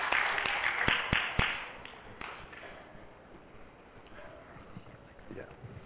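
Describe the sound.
An audience claps, starting as a burst of brisk, overlapping handclaps that thins into scattered claps and fades over a few seconds, with some faint voices murmuring underneath.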